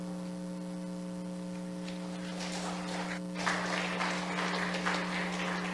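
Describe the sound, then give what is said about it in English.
A church audience breaks into applause welcoming a guest pastor, the clapping building from a thin patter into a fuller, steady ovation, with a low electrical hum droning underneath the whole time. “It's nice to have an applause, but I want to give applause to our praise team as well as we worship together in the morning.”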